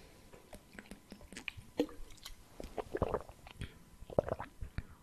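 Someone drinks real water, not tap water, from a bottle: soft irregular gulps and wet swallowing clicks, with a few sharper sloshing sounds, all fairly quiet with no talking.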